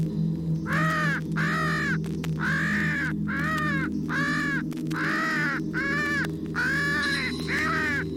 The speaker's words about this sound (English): distress cries of a crow.